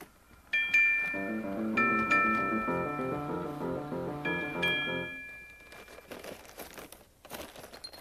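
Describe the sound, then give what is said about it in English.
A bell hanging beside Henrietta's house in the Neighborhood of Make-Believe rings out in several bright, ringing strikes with lingering tones over a soft, rhythmic tune, followed by crinkly rustling once the ringing fades. “That bell at Henrietta's house. You know the one that hangs beside her house in the neighborhood of make-believe?”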